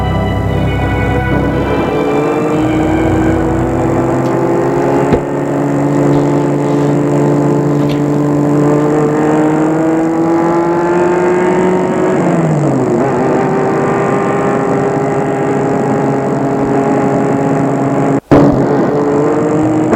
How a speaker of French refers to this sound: Monsieur Latour a garé sa voiture devant le portail de sa maison.